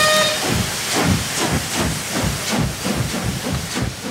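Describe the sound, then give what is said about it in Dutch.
A steam train pulls away with loud, rhythmic chuffs of hissing steam, about two per second, opening with a brief high whistle tone fading under the bursts. “De trein vertrekt binnen 4 minuten.”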